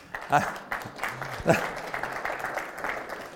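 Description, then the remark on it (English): An audience applauds a question steadily for a few seconds, a dense crackle of many hands clapping, with a few voices rising briefly through the noise. “Two, I'm even more astonished that people clapped it, but never mind.”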